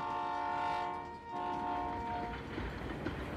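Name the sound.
approaching train with horn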